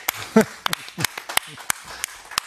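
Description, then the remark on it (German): Scattered applause by the audience at the Tattoo Expo 2023, clapping for themselves: a dozen or so sharp, irregular hand claps rather than a dense roar, with brief bits of voice slipping in between. “Applaus für euch.”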